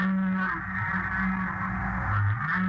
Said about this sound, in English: These are humpback whales singing in a tropical storm.